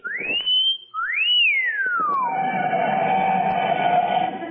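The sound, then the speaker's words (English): A person gives a loud two-part wolf whistle: a quick rising note, then a second note that climbs and swoops down into a long, steady tone over a rushing, noisy background. “No, I was just whistling to entertain myself.”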